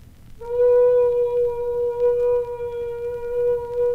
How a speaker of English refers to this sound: The one he usually sets his watch by. When it blows, it's a good indication that the train is leaving Goodwin Siding, about 4 miles up the track.